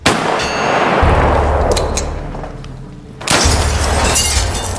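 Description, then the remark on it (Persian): Two loud gunshots about two seconds apart, each a sharp blast trailing into a heavy low rumble with a faint metallic ring. No voices. “این که تفنگه. شلیکون.”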